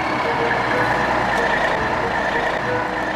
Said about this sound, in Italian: Preso dal nervoso, Manny tornò ritroso dalla classe, ma mentre stava per spiegare alla maestra e a Timmy cosa fosse accaduto, sentì il rumore di un motore diesel accendersi.